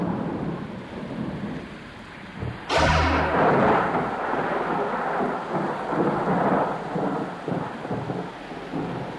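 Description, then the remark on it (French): A sharp, loud thunderclap bursts out of steady rain-like hiss, then rolls on as a long, deep rumble that slowly fades beneath the ongoing storm noise. “Un orage, mais de la musique aussi, pour ouvrir ce plateau avec vous”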